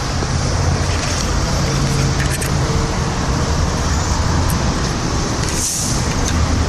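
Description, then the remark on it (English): Steady city street traffic at Central Park West, by a subway station exit around 79th or 81st Street, roars without a break, with engine rumble, a low hum and a brief whooshing hiss near the end, like a vehicle or air brake passing. No one speaks. “Okay, I'm emerging from the subway station at 81st Street and Central Park West.”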